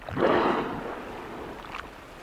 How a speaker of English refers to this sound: Four killer whales, so close we can hear them breathe. One whale pokes its head above water just 10 feet away.